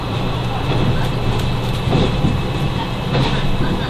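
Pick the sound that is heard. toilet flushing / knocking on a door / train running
train running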